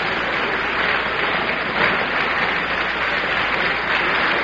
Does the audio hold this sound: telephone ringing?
no